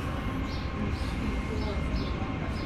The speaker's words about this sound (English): and then hang on, train going by.